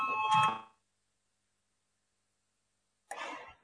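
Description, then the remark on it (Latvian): A short electric parliamentary bell rings briefly before a vote on a proposal from the Finance Minister, then cuts off into about two seconds of silence before another brief, noisier burst of the ring sounds. “Lūdzu, zvanu balsosim par trešo.”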